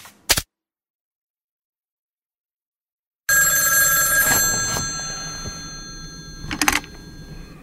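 A brief click, a few seconds of silence, then an old-fashioned telephone bell rings out loudly, its metallic clatter sustaining and slowly fading, with a second burst of ringing near the end.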